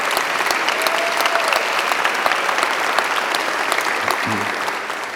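A large crowd claps steadily and loudly for their senior pastor on his second anniversary, a dense wash of many hands applauding without pause for several seconds, with a brief low murmur near the end.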